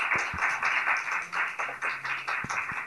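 A crowd applauds steadily, many hands clapping in a dense, continuous patter that fills the room for a few seconds, with a few sharper individual claps standing out.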